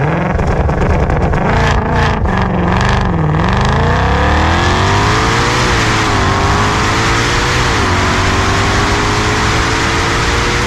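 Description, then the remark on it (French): A loud car engine revs hard, its pitch dipping and then climbing in a long rising whine, with steady throaty rumble throughout and no voices. “Là, tu pourrais même te retirer ton permis, vu les chevaux moteurs que tu as dans ton véhicule.”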